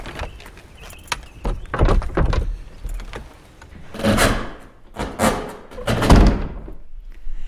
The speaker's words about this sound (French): Je ne sais pas ce qui se passe avec cette porte.